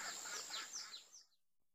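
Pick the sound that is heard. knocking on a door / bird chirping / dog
bird chirping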